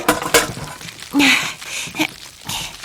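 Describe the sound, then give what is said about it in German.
A load of quince quarters is tipped into a large cooking pot in a few clattering bursts, with sharp knocks and a brief ringing metallic scrape in the middle. The sound is loud and has no talk. “Ich bin schon unterwegs und kippe die Ladung Quitten hinein.”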